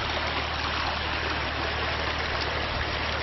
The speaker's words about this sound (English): Another waterfall.